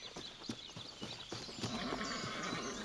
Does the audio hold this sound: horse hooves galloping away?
yes